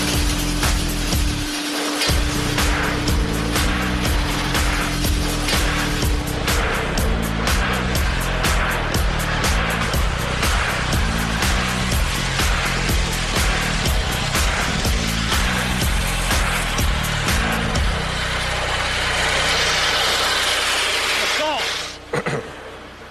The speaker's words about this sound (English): Now feed this one in. Start your auger up. Start your drill feed.